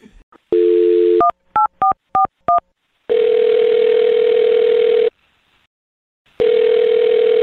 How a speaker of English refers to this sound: What I'm trying to get to is that I'm going to dial her phone number and see if we can get her on the phone and get your second date update. Okay, are you ready? Yes, I am. All right, here we go.